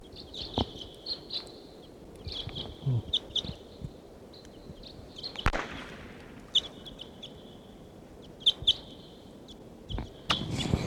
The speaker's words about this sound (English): A bird here about 1:55 p.m. Probably among the same as before. They may be foraging here in Barfoot Park.